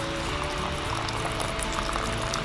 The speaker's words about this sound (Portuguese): Colocar a água.